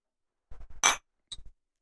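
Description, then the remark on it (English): Beer glasses clink together in a toast: a few quick knocks build to one bright, ringing clink, followed moments later by a shorter, softer pair of taps. No one speaks. “All right, so let's do a quick cheers.”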